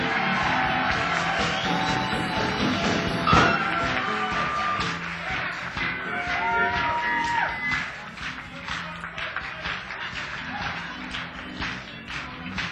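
A crowd applauds with steady, dense clapping, mixed with cheers, whoops and a few shouts; the loud burst holds for several seconds, then thins slightly toward the end.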